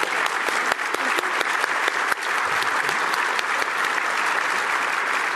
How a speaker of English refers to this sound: Well, let's have a round of applause for Chairman Svinicki and our EDO, Margie Doan.